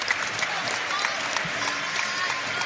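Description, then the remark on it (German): A large stadium crowd applauds footballer Fabian Frey as he is substituted off, a dense wash of clapping that stays even and sustained throughout, with no one speaking over it. “Ansonsten, der Fabian Frey geht raus, kriegt einen Applaus vom ganzen Stadion.”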